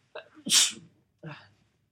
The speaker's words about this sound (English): excuse me, I need to sneeze here.